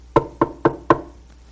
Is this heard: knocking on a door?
yes